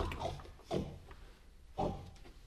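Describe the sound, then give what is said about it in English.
A pig grunts a few times in short, rough bursts, fairly loud, with brief quiet gaps between the grunts and no talking. “Let's go now, Wilbur. Come on, pig. Come on. Good pig.”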